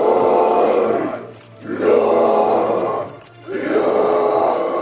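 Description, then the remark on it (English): Heavy metal vocal growling by students at a heavy metal singing school: three long, rough, guttural bursts, each loud and sustained for about a second and a half, separated by brief pauses for breath. No words are spoken. “These students are learning to growl.”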